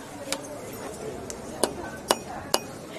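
A rubber mallet taps on silver jewellery at stall 150 of a historic Christmas market, giving four or five sharp, clinking metallic strikes at an uneven pace over a soft background murmur.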